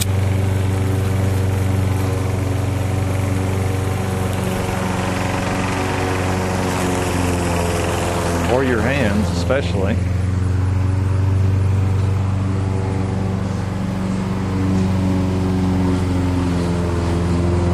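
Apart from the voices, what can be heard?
lawn mower engine running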